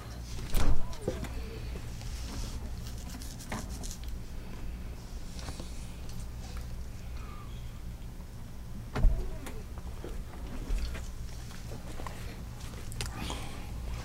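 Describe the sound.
A door opens and closes with a few sharp clunks and latch clicks, one near the start and two more later, over a steady low hum and faint muffled voices.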